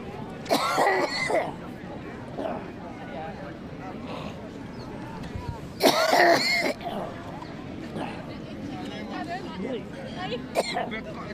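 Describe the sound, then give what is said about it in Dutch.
Two loud, harsh coughing bursts, one early and one in the middle, with rough throat clearing and a brief hack near the end, from a man who got something stuck in his throat, over a faint murmur of background voices. “Hij kreeg iets in zijn keel. Hij heeft water nodig.”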